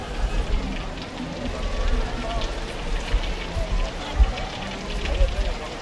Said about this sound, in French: La pluie ne s'est pas arrêtée du week-end, mais heureusement, aucune coupure de courant pendant les fêtes.